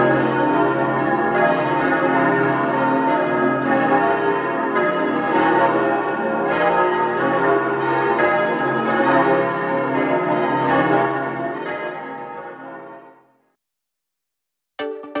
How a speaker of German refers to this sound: Die Glocken von Oberbozen wurden zum ersten Mal zur Christmette des Jahres 1998 geläutet.